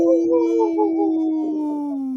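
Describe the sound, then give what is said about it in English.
A single long, steady wolf howl, fairly loud, wavering slightly before sliding gradually lower in pitch as it trails off. No talking over it. “Oh, I was going to say, in this point of the show, we'd like to bring awareness to our Minnesota and Wisconsin wolves.”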